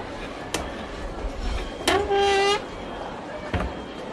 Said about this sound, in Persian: این پنجره چرا باز نمیشه؟ بذاری من بازش کنم.